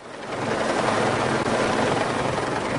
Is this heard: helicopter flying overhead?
yes